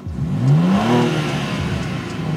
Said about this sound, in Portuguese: Então eu acho que é a hora de a gente fazer esse motor 6 cilindros rugir.